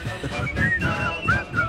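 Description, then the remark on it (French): Someone tries to whistle a tune, producing a few thin, wavering whistled notes that slide in pitch, breathy and uneven, over a murmur of background noise. “Moi, je sais plus siffler.”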